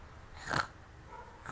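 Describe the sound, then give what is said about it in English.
A young child imitates a pig's snort with one short, breathy nasal burst, fairly soft, surrounded by near silence. “What does a piggy say?”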